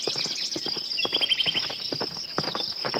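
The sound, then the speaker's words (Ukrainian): Hooves of a stranger's ridden horse approach a camp entrance along a path in a quick, steady clip-clop, over a constant high chirring of insects in the background. “Ми побігли в бік в'їзду, і вже за хвилину на стежці затупотіли кінські копита.”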